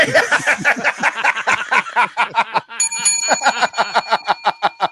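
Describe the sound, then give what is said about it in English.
Rapid, rhythmic snickering laughter runs throughout, and partway through a bell rings out with a bright, sustained metallic tone that lingers under the laughing until the end. “Holy shit, is that the bell? Whose fucking bell was that?”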